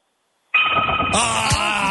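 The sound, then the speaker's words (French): After a brief silence, a bus driver sounds the horn of his bus: it blares suddenly and holds one loud, steady, brassy tone that grows brighter and harsher partway through, continuing until the end. “T'as ton klaxon de bus là ou pas?”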